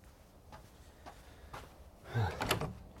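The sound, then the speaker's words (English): A front door opens with a soft click and a rustling, scraping sweep, preceded by a few faint knocks or taps in an otherwise quiet setting. “Oh, look, there's someone at the door.”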